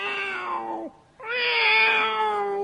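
A cat meows twice, loudly: a short call that trails downward, a brief pause, then a longer, drawn-out, strained meow. No one speaks.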